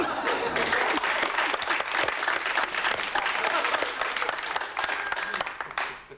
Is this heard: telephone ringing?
no